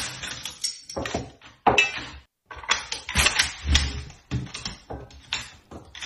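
A Kalashnikov rifle being assembled in 15 seconds by a 14-year-old girl at her camp: a quick, irregular run of sharp metallic clicks, clacks and snaps, some louder than others, with brief pauses between bursts and no talking.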